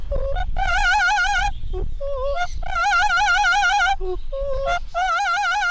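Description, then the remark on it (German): Tortuga, a bright green female parrot with yellow head feathers and red wings, perched on a man's hand, sings opera-style: three long, loud, high warbling notes with strong vibrato, separated by short chirpy squawks, with no one talking. “Tortuga sitzt auf Alessios Hand und trällert eine Oper.”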